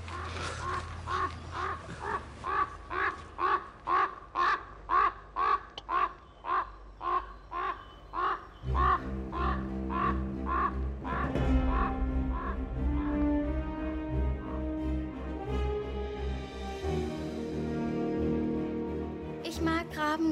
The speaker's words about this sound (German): Habt ihr das gehört jetzt? Das ist. Das ist Singen bei Raben. So singen Raben.